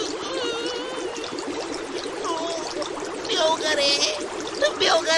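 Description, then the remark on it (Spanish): Water pours steadily into a flooded workshop through a gate that opens by itself when a tank fills, a continuous bubbling gush that swells louder toward the end, with voices sounding faintly over it. “Cuando el tanque se llena, esa compuerta se abre sola. Es por eso que el taller está inundado.”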